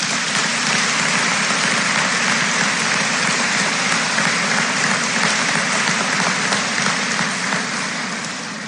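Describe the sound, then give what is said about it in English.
Sustained audience applause for four Recovery Foundation Scholarship Award winners, a dense crackle of many hands clapping at steady loudness for the whole stretch before tapering slightly at the end, with no voices over it. “Let's give these four Recovery Foundation Scholarship Award winners a round of applause.”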